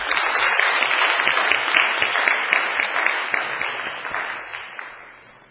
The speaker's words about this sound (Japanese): それでは早速お二人を講談にお迎えしたいと思います。拍手でお返しましょう。